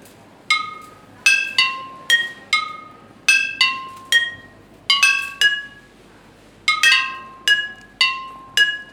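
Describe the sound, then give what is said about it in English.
Bright glassy clinks of a coin or keys tapping a glass bottle, about fifteen sharp strikes in irregular pairs and clusters, each leaving a ringing pitched tone that fades quickly. No voices. “If you have a coin or keys, tap the bottle softly.”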